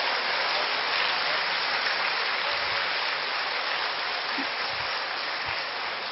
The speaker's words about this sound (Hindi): और मैं यही चाहती हूँ कि आप लोग सभी खड़े होकर कि डायस में हमारे जो भी बैठे हुए हैं उनके लिए जोरदार तालियों से उनका धन्यवाद अदा करेंगे।